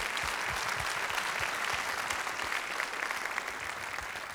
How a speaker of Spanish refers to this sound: Gloria a Dios. Un aplauso al Señor, hermanos.